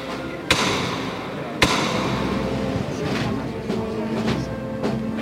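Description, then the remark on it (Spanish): Two sharp, loud metallic knocks ring out about a second apart as the foreman strikes the hammer knocker of a procession float, followed by a few fainter taps, over a steady murmur of a crowd, in sunshine with a light breeze. “El fiscal de paso abraza al capataz, que toca el martillo.”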